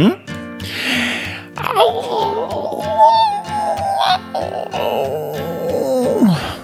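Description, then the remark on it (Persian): Voices imitate wolves howling: long, wavering wails rise and fall in pitch and overlap for several seconds, with grunting and breathy sounds in between and a final falling howl. “شما باید به من گوش کنید و با من زوزه بکشین.”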